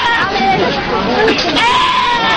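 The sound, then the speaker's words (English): Loud, overlapping bleats from two goats in a rack that sound like human screams, calling almost continuously, harsh, over a busy noisy background. “And then these are a couple screaming goats in a rack.”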